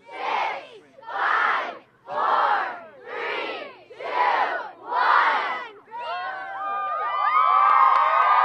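A crowd of students shouts a countdown together in six loud, evenly spaced unison calls about a second apart, then breaks into sustained cheering and whooping.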